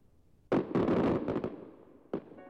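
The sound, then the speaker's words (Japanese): Fireworks burst over a riverbank in a rapid cluster of sharp, loud booms and crackles, then a brief lull before one more distinct bang rings out. No one speaks. “花火の音が大きくなるにつれ涙がこみ上げてきました。”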